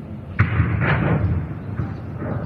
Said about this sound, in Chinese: 乌克兰战场那炸弹爆炸，就是这动静。 哎， 北京也变战场了，咱一块儿回味一下。